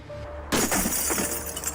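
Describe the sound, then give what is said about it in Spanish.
After a brief quiet moment, a water cannon fires a single loud shot of pressurized water instead of a gunpowder round, a sudden blast that turns into a rushing, crashing burst of noise, with a shattering, glassy edge. “Por eso activaron el interruptor del cañón de agua que dispara una bala acuática a presión, en lugar de una de pólvora que podría haber generado alguna chispa.”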